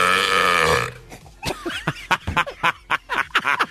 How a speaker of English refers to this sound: And guys, I got to tell you, that burp was beatable. Little underwhelming.